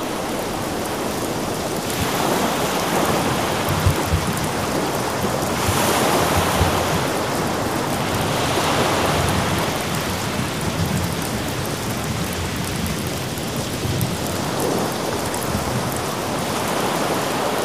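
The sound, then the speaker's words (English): Heavy rain pours steadily with a dense, roaring hiss while gusts of wind swell and fade in slow waves during a nighttime storm, loud and continuous throughout with no voices. “After intensive study, Everett soon became very tired and just continued sitting there in the chair, pencil and papers aside, listening to all of the wind and the rain.”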